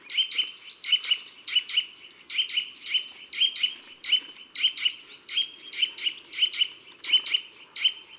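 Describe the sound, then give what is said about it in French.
A Eurasian nuthatch calls a rapid, steady series of bright tuit-tuit notes, roughly two per second, clear, with no voices and little background noise. “Un oiseau sonore, souvent bruyant, qui lance des tuit-tuit à toute heure et en toute saison.”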